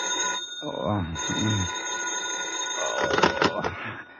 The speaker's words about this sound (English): When you return to your apartment in town, you tumble into bed without bothering to take your clothes off. It's almost noon when the phone wakes you.